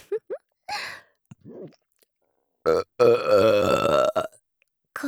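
loud burp

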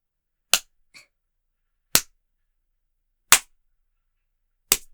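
spanking slaps on buttocks

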